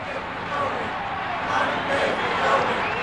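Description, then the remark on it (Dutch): A large crowd cheers loudly and steadily as Frans Ferdinand II is welcomed back into his country, a dense wash of many voices shouting and calling out together, holding the same level throughout with no single voice standing out. “En onder luid gejuich wordt Frans Ferdinand II weer zijn land binnengehaald.”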